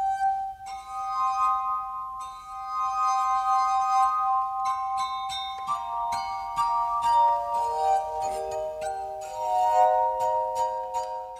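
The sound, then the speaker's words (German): Sustained, ringing glassy tones from a glass harp played with several fingers on several glasses at once, overlapping into soft chords, several pure pitches sounding together and shifting into a new cluster midway, clear. “Bruno Hoffmann spielte auf der Glasharfe die Musik, die es schon gab.”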